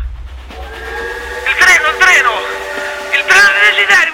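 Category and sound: vehicle, train whistle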